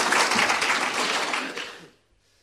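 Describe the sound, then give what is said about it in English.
A crowd gives a man a clap: dense, steady applause that holds for nearly two seconds, then tapers off quickly into near silence. “Give him a clap.”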